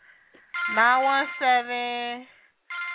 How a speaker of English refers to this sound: Look, people are calling me. Ow. Ow. I got a phone call I should answer right now.